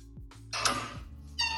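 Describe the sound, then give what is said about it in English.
A cat meows twice, a longer, bright meow followed shortly by a second one that begins near the end, both fairly loud over a low background hum. “Oh, cute. It's a cat.”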